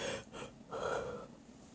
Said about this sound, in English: But what I find, sorry, I'm yawning.